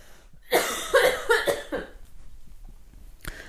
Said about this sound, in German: Ich muss ganz kurz ganz laut husten, warte.